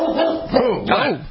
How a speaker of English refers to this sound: Whoa. Kill, Charlotte, kill. I know it is a vicious bark. What are you barking at? Huh?